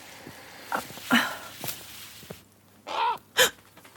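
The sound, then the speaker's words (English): Sudden harsh bird calls burst out: a few scattered squawks, then two loud, rasping cries near the end, rising over a quiet outdoor background. “Oh my God, that scared me. Stupid birds.”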